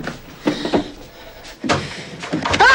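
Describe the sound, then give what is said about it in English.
The door of a cupboard full of stuffed animals is pushed shut, with a few knocking, rattling bumps spread over a couple of seconds and a brief squeaky scrape at the end. No one speaks. “He puts the animal into his cupboard, now full of stuffed animals. As he closes the door”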